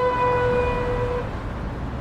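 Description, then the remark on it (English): A police siren in a Paris street on a sunny day sounds a steady, high, held tone over a constant low rumble of city traffic, then fades out about halfway through, leaving the traffic noise. “Birds chirping, people chatting in the streets, loud police sirens, and very loud garbage trucks.”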